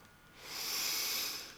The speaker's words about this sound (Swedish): Och placerar händerna nära ditt hjärta. Andas in.